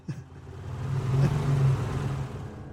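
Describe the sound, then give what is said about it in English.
A car engine revs behind the listener, a steady low mechanical drone that swells louder in the middle and holds, with no voices. “Through my heaving sobs, I hear an engine rev behind me.”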